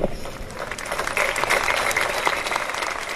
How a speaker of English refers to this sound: We heard some applause there at the moment the Cassini went dark and started to disintegrate.